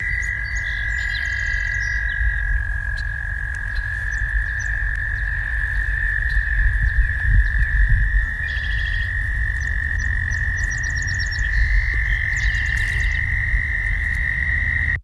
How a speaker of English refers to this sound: All right, here is a chorus of American toads.